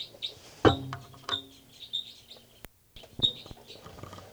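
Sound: bird calls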